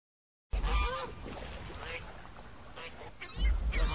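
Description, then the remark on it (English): Geese and hundreds of ducks honk and quack in a lively jumble, a few loud calls standing out over a steady background of birds and low rumble, with no pause in the noise. “These ducks are funny. The geese are funny, too.”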